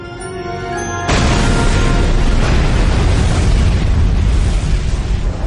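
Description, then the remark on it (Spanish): A low tonal rumble builds for about a second, then a sudden massive explosion boom erupts into a loud, sustained roaring blast that thunders on without fading, with no voices: the supernova explosion of a star, supernova 1987A, blowing the star apart. “La explosión tardó horas en alcanzar la superficie de la estrella y en hacer que saltara por los aires y expusiera su abrasador centro.”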